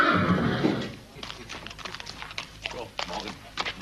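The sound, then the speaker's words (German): A horse gives a loud, wavering whinny, followed by a series of irregular hoof clops on a hard surface as it shifts about. “Es geht um ein Pferd, das rechnen konnte.”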